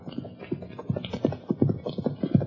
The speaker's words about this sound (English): Hopalong Cassidy and his sidekick, California, have just turned their horses into the corral and are heading for the Bar 20 Ranch House when a horse and rider bear down on them at a fast gallop.